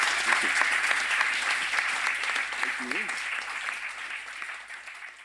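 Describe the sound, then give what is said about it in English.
A crowd gives a sustained round of applause for guests, dense and steady clapping that carries throughout and eases slightly toward the end, with a brief vocal cheer rising out of it midway. “Thank you very much to everyone for coming down, and a massive round of applause to our guests.”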